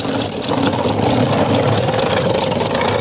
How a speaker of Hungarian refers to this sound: megérkezett egy kisrác egy műanyag motorral, nekem nyusz is volt ilyenből, amikor elestem bele, akkor az állam az egy kicsit felszakadt, de ez a srác erről mit sem tud, és bátran száguld.